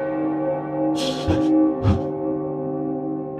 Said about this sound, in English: As the ghostly bell tolled through the facility, Jeffrey shivered, digitally speaking, of course. The clock had just struck one in the morning. Yule morning.